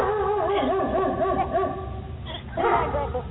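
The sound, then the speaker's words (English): A person imitates a dog with a quick run of loud, yelping barks, breaks off briefly, then lets out another strained, whiny bark-like burst. “Well, I'm supposed to be barking.”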